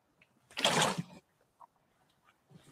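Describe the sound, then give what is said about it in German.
A short burst of bottled water from Poland sloshing from the bottle, like a quick pour or swig, lasting under a second, followed by faint handling noises and a soft rustle near the end. “Übrigens das schlechteste Wasser, was es in Polen gibt.”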